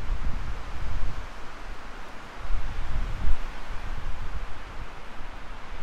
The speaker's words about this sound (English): The wind is actually blowing on me at this point. Moving out towards the ditch, and I'll walk down along the ditch into my driveway. It's quite windy now.